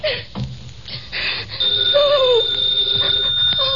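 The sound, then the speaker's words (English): A telephone bell rings as an operator keeps ringing a party line, a sustained bright tone that starts partway through and holds steady to the end, fairly loud over a murky background with no talking. “The phone kept ringing.”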